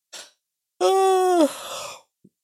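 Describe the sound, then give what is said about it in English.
A single close, drawn-out yawn: a quick breath in, then a voiced, groaning tone that sags in pitch and trails off into a breathy exhale. No talking. “I'm yawning, I guess, because I've seen this news item before.”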